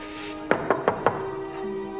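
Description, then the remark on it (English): Four firm knocks on an imposing wooden door in Mr. Potter's club, in a quick, even sequence, clear against a faint steady hum. “Warren arrives at an imposing wooden door”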